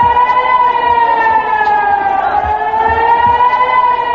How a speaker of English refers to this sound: People in Sderot have become used to air raid sirens and warnings. Sderot lies within a few kilometers of Gaza in plain view and has come under sporadic rocket fire for the past 8 years. It's again become a target,